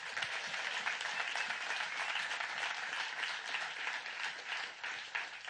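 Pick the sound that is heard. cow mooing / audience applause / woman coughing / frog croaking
audience applause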